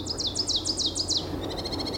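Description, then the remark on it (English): Birds chirp in a quick run of about eight high, descending notes, then a softer, faster series of twittering calls follows, with a low outdoor rumble underneath, during an unusually busy spring migration at Wisconsin Point. “If it sounds like there's more birds than normal in our area lately, there are.”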